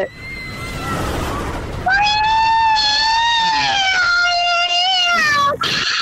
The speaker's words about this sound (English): Okay, here we go. When you hear the roller coaster, you join in. Here it comes.